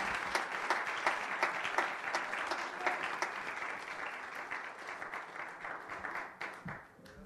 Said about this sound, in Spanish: Es más, démele un aplauso al Rey de Reyes, Señor de Señores.